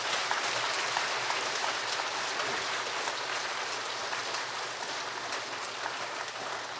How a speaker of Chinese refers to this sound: 好，那我们这次的北美教会大陆施工使团第10届的特会，我们就到此结束。我们用掌声谢谢我们的在天上的阿爸父神。